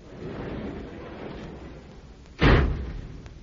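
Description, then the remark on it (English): After a car is put away in the garage, a low rolling rumble runs for a couple of seconds, then the roll-up garage door comes down with one loud, heavy slam that rings briefly before fading. No voices are heard. “And as I put the car away in the garage and closed the roll-up door, it left its shadowy den and pounced.”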